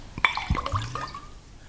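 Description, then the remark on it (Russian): A short splash of double scotch poured into a glass, opening with a bright glassy clink and followed by a brief gurgling trickle that tapers off, with no voices. “Еще двойной скотч.”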